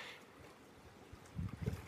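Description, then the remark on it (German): Indian Ocean waves, recorded live in the Maldives, wash in softly, a low, steady rumble of water that swells into a louder surge near the end, with no voices. “Du hörst also gerade den Indischen Ozean.”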